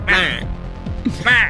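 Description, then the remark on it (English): A person imitates a penguin with two nasal, honking squawks, one at the start and one near the end, loud with a brief murmur between them. “As if it was actually the penguin, and he was making those noises.”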